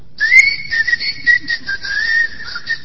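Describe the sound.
A person whistles a tango melody, a clear, steady tone that glides gently between notes for a few seconds, fairly loud with no talking.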